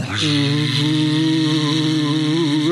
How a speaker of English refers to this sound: Let's put on our fake vacuum cleaner so Noreen thinks we're busy.